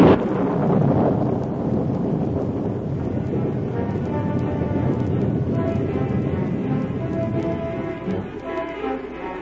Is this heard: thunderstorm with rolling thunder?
yes